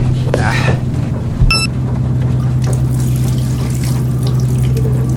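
Water is poured steadily into a glass for several seconds, a continuous splashing pour with a brief clink near the start, set against a low steady hum.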